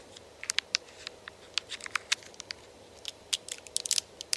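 A Dove chocolate bar wrapper crinkles and tears open in a quiet series of sharp crackling snaps, followed by crisp bites and chewing, with no voices, in a Dove Chocolate ASMR commercial.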